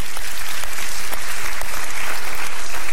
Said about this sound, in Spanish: Palmas al Dios de la gloria. Aleluya.